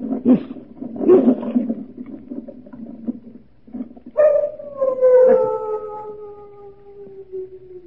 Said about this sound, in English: What was that? Only the dogs, monsieur. They keep many dogs, large dogs at the Chateau d'Azay.